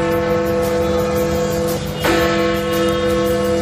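church bells ringing

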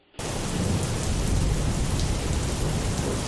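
heavy rain with thunder

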